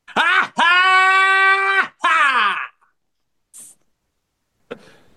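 person screaming

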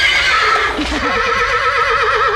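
horse whinnying

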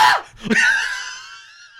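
person screaming

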